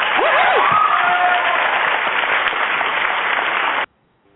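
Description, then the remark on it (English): Steady, dense applause from a crowd, loud, with a few whoops and cheers rising early on, then cutting off abruptly after nearly four seconds; applause for a performer after a song. “Okay, you deserve an applause.”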